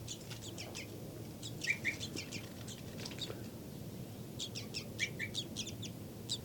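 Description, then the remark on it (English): A series of short, high-pitched flight calls from an adult bird labelled 5-9, pursuing a chick around a cell, comes in rapid clusters, pausing briefly before another burst, over a steady low background hum. “Flight call series by 5-9.”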